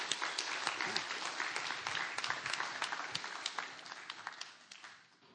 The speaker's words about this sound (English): Let's give him a welcome. Give him a clap.